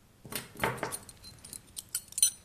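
Keys on an old metal key ring, thought to be over 100 years old, jangle in a burst of bright metallic clinks followed by several lighter, scattered jingles as they settle, with no voices.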